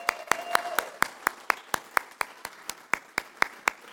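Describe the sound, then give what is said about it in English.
Steady, rhythmic hand clapping by an audience applauding mothers, sharp claps at an even brisk pace about four per second, moderately loud over a faint hum, with no speech. “Let's clap for our moms.”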